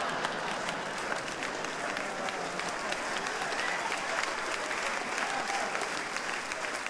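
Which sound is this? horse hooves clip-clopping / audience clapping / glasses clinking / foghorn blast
audience clapping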